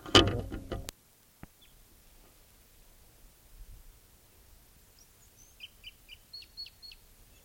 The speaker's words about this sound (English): Wild bird.